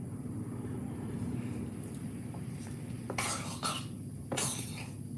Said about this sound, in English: And so let's do the simultaneous sip, and I guess I'll drink warm water. Here's to you. Go.